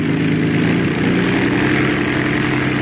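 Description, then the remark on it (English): A loud engine being revved runs with a steady, throbbing drone, its low hum holding an even level for the few seconds with no voices over it. “Well, the engine's doing as well as you can expect in this weather.”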